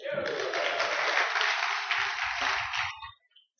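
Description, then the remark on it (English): A crowd breaks into loud, steady applause, a dense wash of many hands clapping that holds for about three seconds before quickly dying away, with a few low voices murmuring underneath. “Let's give her a clap.”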